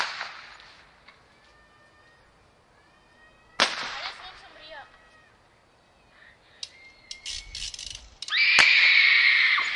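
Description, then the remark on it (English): Bottle rockets set off by people behind a building: thin rising whistles followed by a few sharp, loud pops at irregular intervals, then a burst of crackling hiss toward the end. “Where are those bottle rockets coming from?”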